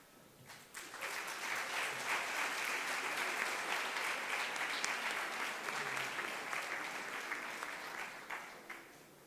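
An audience breaks into sustained applause for the Lord, a dense wash of clapping that swells quickly, holds steady for several seconds, then gradually thins out toward the end.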